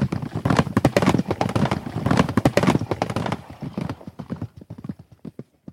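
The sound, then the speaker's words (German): Many hooves clatter in a dense, overlapping clip-clop of many horses trotting in a yard outside a house, loud at first, then thinning out to a few scattered hoofbeats as they move off. “Nein, das sind viele Pferde, die da im Hof trappeln.”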